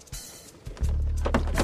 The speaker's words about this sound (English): She looks back at him as she shuts the car door and walks up to her house, a smile appearing on her face.